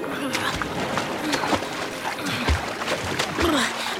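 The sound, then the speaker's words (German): Water splashes and churns steadily as Lars paddles hard with his hind paws, pushing an ice floe toward land. A busy, irregular stream of sloshing bursts fills the whole moment, with a few louder surges. “Und diese Eisscholle schiebt er nun geschwind in Richtung Land, indem er sie mit den Hinterpfoten im Wasser wild strampelnd antreibt.”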